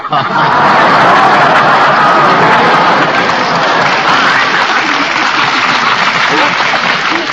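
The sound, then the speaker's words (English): Sustained audience applause, loud and dense, filling the whole stretch with a steady wash of many hands clapping at once, with no pause or fade. “The man got applause with a gag like that.”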